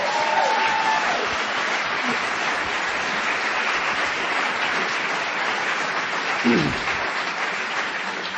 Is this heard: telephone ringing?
no